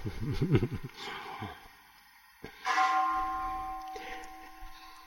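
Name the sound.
temple bell ringing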